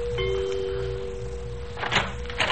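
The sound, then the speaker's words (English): The front doorbell of a house rings with a steady, sustained tone lasting over a second against a low background hum, then a couple of short, muffled bumps follow, like a door being handled. “We went up the flagstone walk and rang the front doorbell.”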